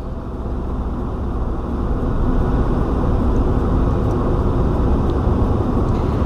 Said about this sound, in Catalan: El so del motor, d'un cotxe, d'un vehicle.